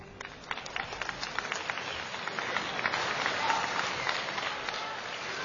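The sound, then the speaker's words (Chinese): An audience applauds steadily after a Chinese xiangsheng (crosstalk comedy) performance, a dense wash of many hands clapping that swells slightly and holds at a moderate level throughout, with no one speaking over it. “谢谢您的掌声，谢谢您的掌声，谢谢您的掌声，好，谢谢，”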